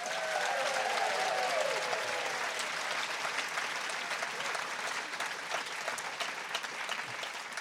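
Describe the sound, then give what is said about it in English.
An audience claps steadily for author Melissa Lukashenko for several seconds, a dense crackling wash of many hands that fades slightly toward the end, with a brief rising whoop near the start. “Can you please make a huge round of applause for Melissa Lukashenko?”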